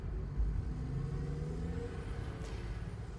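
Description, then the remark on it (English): A car drives along a road with a steady low rumble of engine and tire noise that holds even throughout, with no voices. “So, anyway, a few weeks ago I quit my job and bought this car and got my license, and now I'm driving.”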